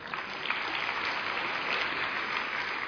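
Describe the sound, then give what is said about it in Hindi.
A crowd claps steadily, a dense, continuous wash of many hands applauding at an even level for a few seconds, with no voices standing out. “आप ताली नहीं बजा रहे।”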